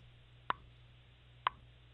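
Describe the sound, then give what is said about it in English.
A phone caller from Holyoke imitates a chipmunk's call he has been hearing in his neighborhood: two short, sharp chip notes spaced about a second apart, each a quick bright pop over a faint steady low hum, with no talking. “Chipmunk. It fools me every time, darn near.”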